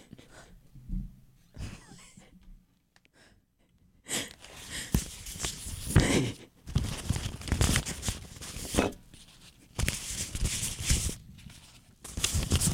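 Loose paper rustles and crinkles in irregular bursts, soft and sparse at first, then turning louder and busier with crisp, scratchy shuffling and brief pauses between handfuls.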